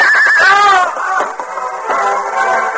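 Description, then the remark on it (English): A horse whinnies loudly as it is hurriedly turned and stumbles, throwing its rider: a shrill rising then wavering neigh with several quick pulses, followed by lower snorting and blustery sounds over a steady background rush. “As Hal hurriedly turned his horse and started back, the animal stumbled, throwing the young outlaw.”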